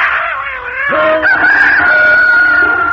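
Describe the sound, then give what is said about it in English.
A rooster crows loudly, one long, drawn-out call that swells after a brief start and holds strong to the end, with no voices. “The cat spit and scratched the robber, and the dog barked and bit his leg, and the rooster crowed and pecked his ears, and the donkey brayed and kicked him out of the door.”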